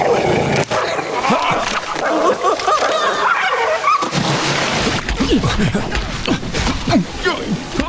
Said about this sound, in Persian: بیا بیرون سگ لعنتی، همش تقصیر توه. ای سلام هاپو کوچولو، چرا انقدر بی اعصابی؟